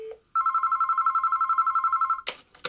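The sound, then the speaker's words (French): A short tone, then a steady, rapidly pulsing telephone ring heard down the line for about two seconds on a call to the lawyer of Maurice Papon, cut off abruptly by a burst of noise as the call is picked up. “Il faut juste un téléphone.”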